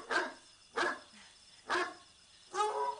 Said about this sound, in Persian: این سگ امشب چشه؟